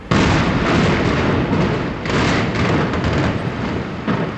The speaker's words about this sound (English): this morning, people gathered in the blocks surrounding the remains of the Alfred P. Murrah office building. They heard a warning siren, and seconds later, work crews set off about 100 pounds of dynamite carefully placed inside the federal building.